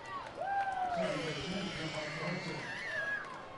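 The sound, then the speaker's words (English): Shrill, sliding screeches from Clearwater fans in a baseball stadium after a flyout rise and fall over a steady crowd murmur, a few long piercing cries overlapping for several seconds. “Blood-curdling screeches from Clearwater fans after that flyout.”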